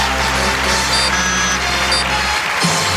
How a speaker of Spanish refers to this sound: Fuerte el aplauso.